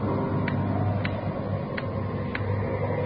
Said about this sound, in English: Loud clock, ain't it?